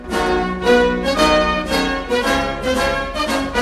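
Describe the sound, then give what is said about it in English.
A band plays a steady, full-bodied piece of music with sustained brass and strings, rhythmic pulses marking the beat, moderately loud, with no voices, as a Guard of Honor leads guests, including the President of the United States and the President of France, into a dining room. “The Guard of Honor leads the guests into the dining room as the band play.”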